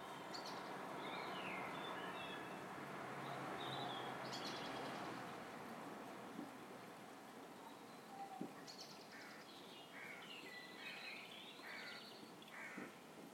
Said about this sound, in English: But there's nice birds out here. The first blackbirds are starting to sing. There's a robin out there.